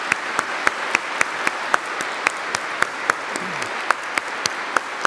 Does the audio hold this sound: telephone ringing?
no